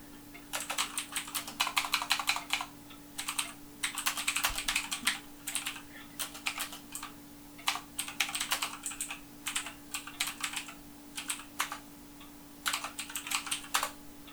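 Rapid typing on a computer keyboard while replying to an email, crisp clicky keystrokes coming in bursts with brief pauses between, over a faint steady electrical hum. No one speaks.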